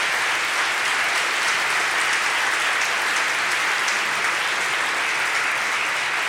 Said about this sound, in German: Und großartig, und an dieser Stelle hätte ich gerne einen Applaus